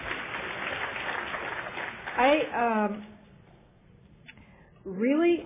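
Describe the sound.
Audience applause for a speaker's weight loss of about 80 pounds, a dense crackling patter that fills the first two seconds and then fades out as a person begins speaking.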